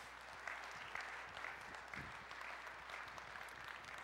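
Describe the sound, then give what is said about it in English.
A crowd at Cedar Ridge gives a big round of applause, a dense wash of many hands clapping at an even level for several seconds, with no voices rising above it. “So it's a bit of a nightmare for her, so I think we should give a big round of applause.”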